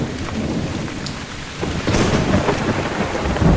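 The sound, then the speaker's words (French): Deep, rolling thunder rumbles continuously over steady heavy rain, swelling louder midway through with crackling bursts, no voices present. “J'aime quand ça tonne. Que ça explose et que ça tremble.”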